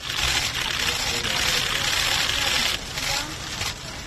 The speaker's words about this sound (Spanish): Lo que suena son los flashes de los fotógrafos